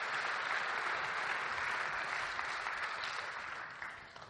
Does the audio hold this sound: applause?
yes